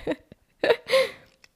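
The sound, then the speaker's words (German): Someone swallows audibly: a few short, throaty gulping bursts with soft clicks in between. The sounds are moderately loud, irregularly spaced, and there is no talking. “Dein Schlucken hat man jetzt auch gehört.”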